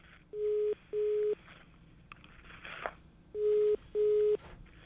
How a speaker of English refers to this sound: All right. Might hear the phone ringing. That we hear.